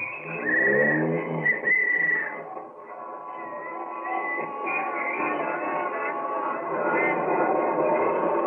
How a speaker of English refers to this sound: There'll be plenty of traffic tonight, so let's get an early start to the theater. Here's my cab, won't you step in? All right, driver, up Broadway.